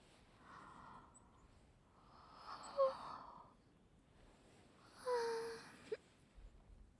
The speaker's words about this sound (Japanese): あ、あくび映ったね。あなたも眠そう。